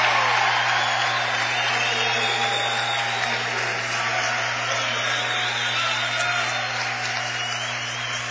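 A basketball crowd applauds steadily and fairly loudly throughout, a dense wash of many hands clapping that barely fades toward the end, after sophomore J.D. Bohr makes a free throw in a Dort College game against Hastings, Dort College leading 69-42.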